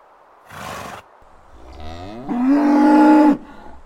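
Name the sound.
bull bellowing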